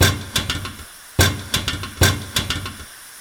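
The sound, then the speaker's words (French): Bursts of steam hiss from steam cooking repeat in a steady cycle, each surge followed by quicker puffs and sputters, three rounds in a row, moderately loud with no talking. “Est-ce que t'entends ce que je vois ? La cuisine à la vapeur.”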